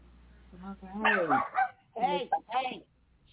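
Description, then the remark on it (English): A dog, Chico, barks and yelps at somebody in the hallway in three quick, bright bursts, fairly loud, with a low hum beneath at the start. “Barking at somebody in the hallway.”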